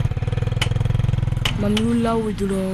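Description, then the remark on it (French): A motorcycle engine idles at a roadside repair stand in Ouagadougou with a steady, rapid chugging pulse, then its pitch rises as it's revved, while voices murmur in the background. “Je me suis installé au bord de la voie ici parce qu'il y a trop de motos à Ouagadougou.”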